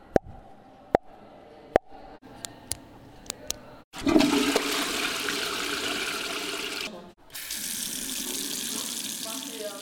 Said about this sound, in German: Ja, und habt ihr es erraten? Ja, die richtigen Antworten sind Klospülung, Stiftklicken, Plopp und Wasserhahn.